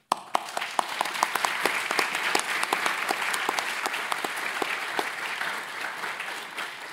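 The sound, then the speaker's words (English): An audience applauds steadily for about seven seconds, many hands clapping in a dense, even patter with sharp individual claps popping out, holding a fairly constant loudness and no speech over it. “Should a round of applause for calling everyone small group primates.”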